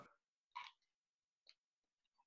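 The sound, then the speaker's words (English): Crisp bites and crunches of someone chewing a cold slice of low-GI toast with butter, a few irregular bursts with short quiet gaps between them, no talking. “Not too crunchy. It sounds almost worse than mine.”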